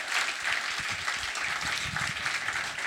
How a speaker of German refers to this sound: Applaus für ihn.